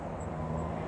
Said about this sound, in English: There's a bus.